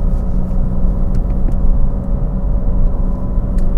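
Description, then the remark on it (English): A steady, continuous low engine rumble with road noise from inside a moving car being driven for the first time to check that the wheels and brakes work, holding at a fairly constant level with a faint hum and occasional soft clicks. “All right, so I'm out today to drive this car for the first time to make sure that the wheels haven't fallen off it and that the brakes still work and that it's not, I didn't beat the shit out of it.”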